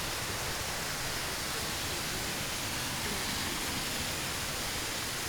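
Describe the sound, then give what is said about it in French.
A waterfall roars in a continuous, dense wash of rushing water, steady and unbroken throughout, with no voices or other distinct sounds standing out. “Il fait un demi-mètre et là ça s'ouvre sur la cascade.”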